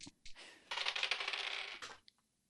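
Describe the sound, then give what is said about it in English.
Dice rattle and tumble across a table in a bright, rapid clatter lasting over a second, preceded by a couple of sharp clicks and ending with one last tap before silence. The dice come up two eights. “Two eights, which comes to 18.”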